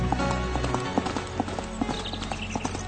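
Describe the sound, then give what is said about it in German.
Rapid hooves of a ridden horse galloping through a forest clip-clop in a quick, steady rhythm, fairly loud, with a low rumbling background underneath and no voices. “Theo rast im Galopp durch den Wald.”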